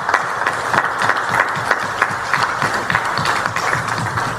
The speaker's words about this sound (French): Et nous avons un dernier applaudissement à Semounaï Fanouchal.